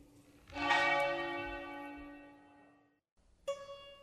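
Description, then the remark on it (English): A church bell outside the window of writer Beppe Severnini tolls twice, each loud, resonant stroke ringing out and slowly fading before the next strike begins, with no voices present. “Thank you so much, Beppe, and it must be a delight to have church bells out your window.”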